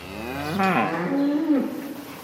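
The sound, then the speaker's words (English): Dairy cows on a farm with 99 cows to milk moo twice in quick succession, one low drawn-out call overlapping another, clear over a faint barnyard background with no one speaking. “is a farmer with 99 cows to milk.”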